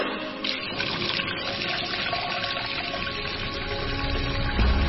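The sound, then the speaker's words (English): Water gushes steadily from a truck's pump hose into a community's containers, a week's ration of water, as a continuous rushing, splashing flow that stays loud throughout with a low mechanical rumble beneath. “Wait for the truck that will fill those containers with their week's ration of life-sustaining water.”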